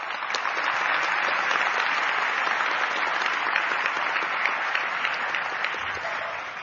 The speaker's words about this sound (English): They truly deserve a big round of applause.